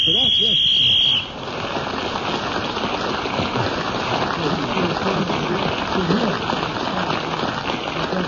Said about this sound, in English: And … was speaking as the whistle went, so let's blow the whistle again.